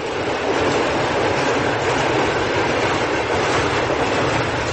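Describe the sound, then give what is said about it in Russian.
A train rumbles past close by barracks housing in the Sovetsky district, where trains pass around the clock causing strong vibration: a steady loud roar of wheels with faint clickety-clack running throughout, and no voices over it. “Ведь буквально рядом круглосуточно проносятся поезда.”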